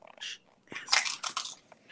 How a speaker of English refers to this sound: What you eating over there? I'm sorry, we can't hear you. Yeah. What's that crunching? They're pretty loud. Go ahead. Take a bite. Listen.